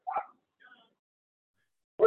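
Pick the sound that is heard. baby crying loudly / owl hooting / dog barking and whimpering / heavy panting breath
dog barking and whimpering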